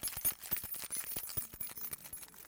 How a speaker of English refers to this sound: When I jingle these keys, does it make you happy?